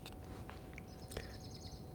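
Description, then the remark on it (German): A bird flies past, giving a few short high chirps over a quiet background hum, with one soft click partway through and no one talking. “Ist ein Vogel vorbeigeflogen, habt ihr ihn gehört?”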